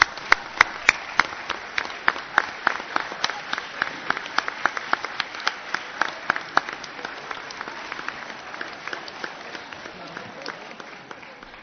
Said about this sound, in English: Would you all one last time please stand for a nice round of applause, everybody, retirees?